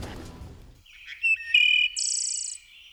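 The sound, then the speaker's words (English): Warbler song from the tallest treetops in woods: a few thin, high whistled notes that lead into a bright, buzzy rising trill, clear, following a brief burst of rustling noise at the start. “The warblers are here.”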